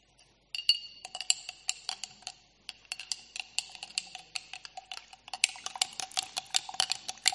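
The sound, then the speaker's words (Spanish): Water and soil being stirred in a glass jar, heard as a rapid, irregular run of bright, ringing clinks as the spoon strikes the glass, growing busier toward the end. No one speaks. “Estamos revolviendo un frasco.”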